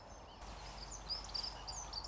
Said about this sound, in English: We have a dunnock singing on the right, the little cichlid notes on my right.